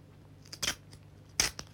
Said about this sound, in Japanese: ちょっと、ベッドにスマホを置かせてもらい、こちらの、バイブを、よいしょ、電池入れたてなのでちょっと強力なのですが、よいしょ、ガムテープで固定していきたいと思います。